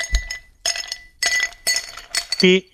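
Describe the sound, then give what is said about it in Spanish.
Several ice cubes clatter into a glass in quick separate bursts, bright clinking knocks, ending with a ringing glassy tone as the last cube settles. “Muy bien, efectivamente, echando unos hielos a un vaso, correcto.”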